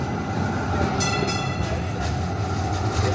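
An approaching light rail train rumbles steadily, a dense low roar with faint metallic screeching and rattling layered on top, continuous and fairly loud throughout.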